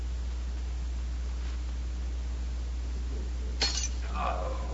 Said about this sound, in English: That's the second wine glass Valcour has dropped in an hour.